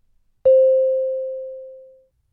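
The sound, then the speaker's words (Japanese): A single clear electronic chime, marking the end of a dialogue in an English listening test broadcast, strikes once and rings out with a steady tone, fading smoothly over about a second and a half in otherwise silent surroundings. “それぞれの対話の最後に次のチャイムが鳴ります。”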